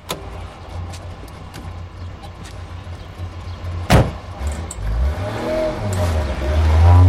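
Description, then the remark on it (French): A car door slams shut with a sharp thud, then an engine starts up and revs, pulling away as the low rumble rises steadily. No one speaks. “écrase sa cigarette et le rejoint dans la voiture.”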